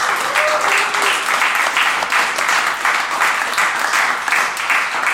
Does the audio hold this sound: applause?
yes